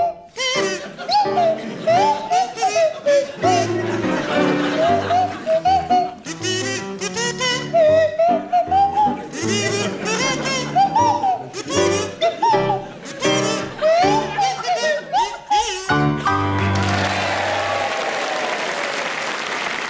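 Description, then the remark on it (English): Sandy Toksvig on a buzzy kazoo and Tim Brooke Taylor on a swooping, sliding swanee whistle play a wobbly tune together, their pitches gliding up and down, before a burst of applause takes over at the end. “feature Sandy Toksvig on kazoo and Tim Brooke Taylor on the Swanee Whistle”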